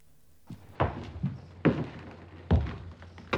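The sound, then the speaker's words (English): Slow, heavy footsteps thud on wooden stairs at the top of the staircase at 3 o'clock in the morning, about five dull steps spaced unevenly over a few seconds, with no voices. “At exactly 3 o'clock in the morning, she heard footsteps at the top of the stairs.”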